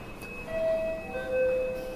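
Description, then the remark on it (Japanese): A two-note electronic station chime ('pinpon'), a clear higher tone followed by a slightly lower one, each ringing about half a second over a steady low background hum, with no voices. “場所によっては上りと下りで違うらしいですね、このピンポンの音がね。”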